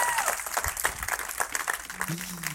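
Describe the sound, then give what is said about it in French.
A church audience applauds Jesus on a baptism day, many hands clapping in a dense, steady wash, with scattered voices calling out beneath it and a brief voice toward the end. “Et si en allant dans la salle, vous avez expérimenté ce Jésus qui sauve, est-ce que vous pouvez juste dire Amen et applaudir notre roi des rois?”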